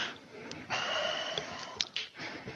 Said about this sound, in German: Also von daher, der atmet gerade nochmal tief durch.